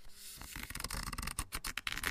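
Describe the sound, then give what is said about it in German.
Crisp paper rustling, a quick series of dry swishes and crackles as the pages of a newly ordered book are flipped and handled, with no voices. “Ganz schönes Papier, finde ich, ist das.”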